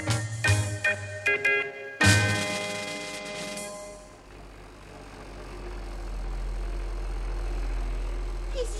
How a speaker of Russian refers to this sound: Едут, едут. Ой, какая интересная машина. Домик на колесах, а на крыше какая-то штучка вертится.